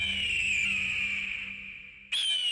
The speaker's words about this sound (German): Da blickte er fragend in die Höhe, denn er hörte über sich den scharfen Ruf eines Vogels. Und siehe, ein Adler zog in weiten Kreisen durch die Luft